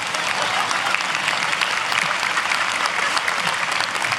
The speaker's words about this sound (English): Can we give him a hand clap so I can blow my nose?